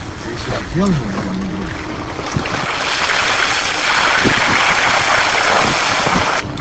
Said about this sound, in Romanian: Škoda noastră face față cu greu gropilor de pe drumul din Caracui. Lumea spune că de zeci de ani acesta nu a mai fost reparat.